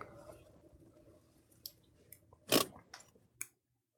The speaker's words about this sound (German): Hast du gepupst? Hast du laut? Das war meine Handbremse.